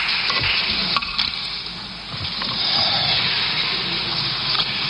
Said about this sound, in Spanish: Vamos a ver cuál es el tono de esta segunda intervención del líder de los populares. Que ya es recibido, sin decir nada, con un aplauso por parte de la bancada popular.